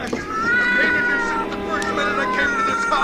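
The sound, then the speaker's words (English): A cat yowls loudly and continuously, its drawn-out, wavering cries rising and falling for about three seconds, with faint scuffling noises mixed in, as a man in a cellar tries to push the writhing, scratching cat into a furnace. “He was trying to push poor Lady Susie into the furnace. She was writhing and scratching with all her might.”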